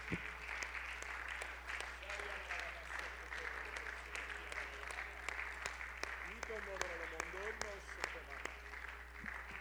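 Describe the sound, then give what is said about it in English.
An audience at an evening church service claps its hands in praise to the Lord, a steady dense applause lasting several seconds, with voices calling out beneath the clapping. “Would you give the Lord a hand clap of praise tonight?”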